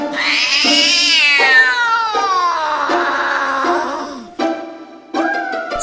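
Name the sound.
cat meowing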